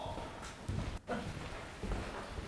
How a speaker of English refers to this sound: Just shoulder into the door. Okay, I'll shoulder it. I mean it, dude. I'll keep the key and shoulder it. The door.